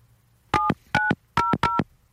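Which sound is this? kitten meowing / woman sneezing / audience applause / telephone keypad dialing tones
telephone keypad dialing tones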